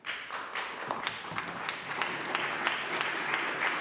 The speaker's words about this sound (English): Well, the members opposite might think about their clapping when they start listening to nurses.